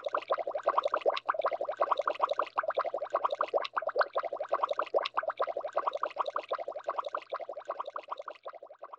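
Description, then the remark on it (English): A continuous burbling bubble effect with rapid, dense popping pulses, steady and fairly loud for about nine seconds, tapering slightly toward the end. No voices. “And then we've got the Bubbles.”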